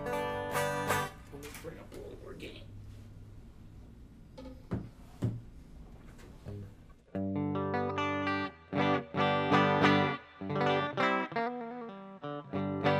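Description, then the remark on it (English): A clean electric guitar, a Flowcaster on the treble pickup, plays through a Quilter amp with the pedal bypassed, starting with a few ringing notes and sparse plucks, then moving into fuller, rhythmic chords that sound fairly loud. “So that's the clean sound.”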